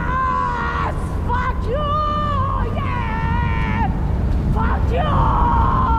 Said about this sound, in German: Dieser Schrei hier aus dem Film Critical Zone, das war auch eines dieser Bilder des Festivals. Eine bekiffte Frau lehnt sich aus einem fahrenden Auto in Teheran. Sie reißt sich das Kopftuch runter und schreit laut in diese Nacht